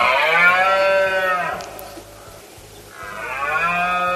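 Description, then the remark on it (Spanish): Red deer stags roaring during the rut (the berrea) in Spain, the kind recorded by nature sound recordist Carlos de Hita: two long, loud, deep bellowing roars, each lasting about a second and a half, separated by a short quiet gap, with no talking. “Este fin de semana, de hecho, se va a ir a Andújar, en Jaén, para recoger con su grabadora la berrea de los ciervos.”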